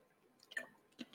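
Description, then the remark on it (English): A quiet sip of water: two brief wet mouth sounds, a soft slurp followed by a swallow-like click about half a second later, with no talking. “Well, let me have a sip of water.”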